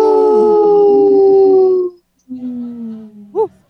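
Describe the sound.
Two long, loud howls, the first a sustained falling wail, then after a brief pause a second one with a rising yip at the end, voices imitating wolves in support of Howling for Wolves, a group protecting wolves.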